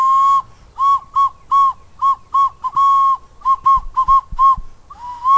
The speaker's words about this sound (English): That was crazy, playing a 1,000-year-old fucking Jaguar whistle.